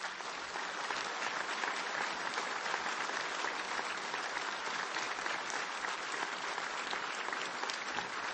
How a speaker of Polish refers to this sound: A teraz oklaski za przygotowanie księdzu biskupowi waszemu.